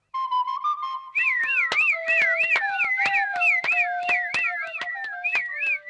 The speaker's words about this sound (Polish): A cóż to, fujarka? A po cóż komu ona? Chyba nikt tu wesołym być nie może. No, przynajmniej przed śmiercią upuszczę kilka tonów.